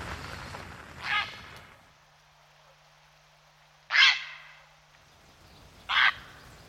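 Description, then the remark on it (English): A grey heron gives three harsh, croaking calls spaced a couple of seconds apart, the later two louder, with quiet background between them. “Here's a bit more about the heron.”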